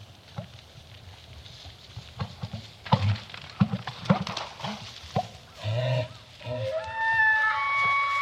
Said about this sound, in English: Two of the males just lock antlers and start fighting, and you can hear the antlers banging into each other. They're breaking willow trees over. You can hear the splashing of the water, the suction of their feet in the muddy ground.